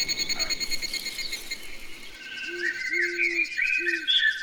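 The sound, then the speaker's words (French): Outdoor countryside ambience in the village of Nkeni on the Bateke plateau, with a constant bed of insects or frogs, bright chirping birdsong, and a few low hooting calls repeating, with no one speaking. “Ici, c'est la nature qui s'exprime. Les oiseaux chantent, la poule picote et les vents caressent la peau.”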